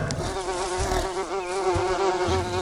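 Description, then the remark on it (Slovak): Steady, droning buzz of bees in an audio game, loud, holding a continuous wavering hum for the whole stretch with a few low thumps underneath and no talking. “Tak to skúsim chytiť tieto včely najprv.”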